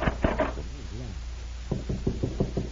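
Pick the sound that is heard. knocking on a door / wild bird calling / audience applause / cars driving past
knocking on a door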